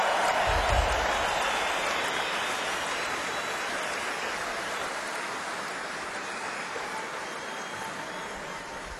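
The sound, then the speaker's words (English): A crowd claps steadily for a musician returning to play with the band, in a dense, continuous wash of applause, loud at first and gradually tapering off over several seconds, with no one speaking. “everybody, how about a nice round of applause”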